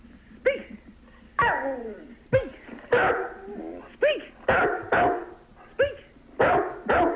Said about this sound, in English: Oh, I got a couple of dogs ready to talk to you. Oh, you got a couple, have you? Yeah. Excellent. The more the merrier. Yeah, wind them up and let them go.